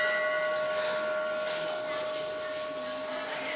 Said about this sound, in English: You hear that? Om, Om. People ring the bell when they enter the temple because it gives them peace. They leave their hypertensions, they leave their trivial concerns at the door so they can enjoy the eternal atmosphere of the temple.